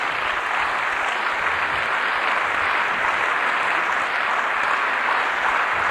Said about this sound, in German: Ja, meine Damen und Herren, ich sehe am Applaus, dass Sie sehr Freude dran haben.